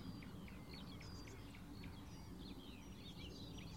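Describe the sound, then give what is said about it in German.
A warbler gives a string of short, hard, pebble-like calls, high-pitched and fairly quick, over a steady low background rumble; no one speaks. “Jetzt hört ihr sie, das kieselsteinartige Rufen der Menschgrasmücke.”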